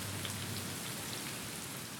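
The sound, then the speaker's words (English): A water mill wheel turning as the millstones inside turn, set into a stone channel beneath the mill on its seaward side, heard as a steady, quiet rushing of water with a faint low groan underneath, continuous and unchanging throughout, with no voices. “You can hear the wheel from here. Not loudly. It is a low, continuous sound. Part groan and part rush.”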